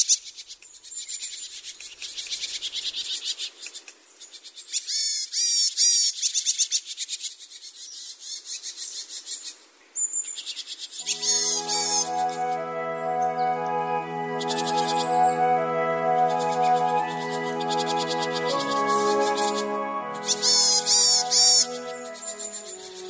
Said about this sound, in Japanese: 朝の小鳥、今朝は熊本市金峰山のエゴの木大好き山柄の声をお届けしました。